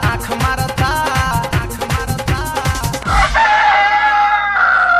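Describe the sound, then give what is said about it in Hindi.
Upbeat music with a driving drum beat plays, then cuts off as a loud, drawn-out rooster crow rings out, sustained for the final couple of seconds. “ए madam मुर्गी ताहर मुर्गा से हमर लव करता, कुकू हुकू करता, आई लव यू कहता”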